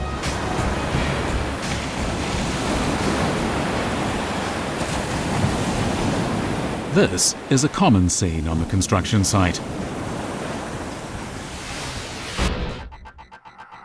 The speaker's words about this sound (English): The devil is the turbulent waves. Even in calm weather, the swells can reach 3 or 4 meters, greatly impacting the construction of the Cross Sea Bridge.